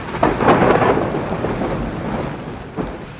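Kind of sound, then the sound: nature, thunder clap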